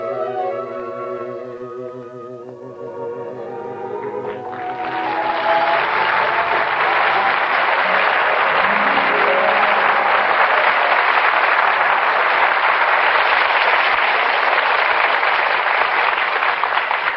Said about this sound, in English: I heard all that applause outside. You killed them. They loved you, huh? Ah, that was for ….